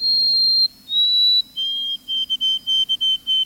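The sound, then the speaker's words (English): A white-throated sparrow whistles its song: two long, pure high notes, the second slightly higher, then a drop to a lower pitch repeated in a series of short, even triplet-like notes. “The white-throated sparrow's melancholy whistle is hauntingly beautiful.”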